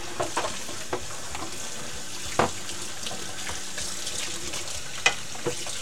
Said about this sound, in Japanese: 汁を作ったお玉と、ちょっと取れねえな、お玉とお鍋を洗っております。